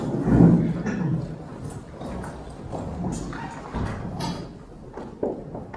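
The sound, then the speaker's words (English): Doors thud shut several times at irregular intervals before a group exercise, each a dull knock against a busy background of shuffling and muffled noise. “I see some doors being shut.”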